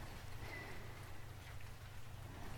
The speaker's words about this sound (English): This rain is hypnotic, but if I do fall asleep, I'm glad it's cuddling up to my perfect handsome master.